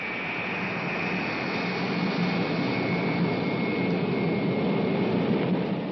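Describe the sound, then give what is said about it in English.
An Air Force plane taxiing, its engine holding a steady, continuous roar with a faint high whine on top, even in loudness throughout, with no voices. “He walks to the window, watches an Air Force plane taxiing.”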